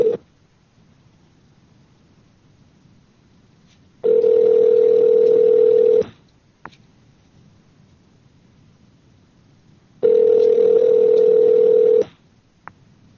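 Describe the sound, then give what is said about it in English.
A telephone ringback tone heard through the line: two steady, fairly loud rings, each about two seconds long, separated by a quiet pause of several seconds, with no one talking. “Let's call Sour Panties over here, see what she's up to. Call again, man.”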